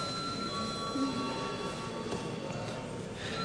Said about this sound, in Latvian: Lūdzu zvanu.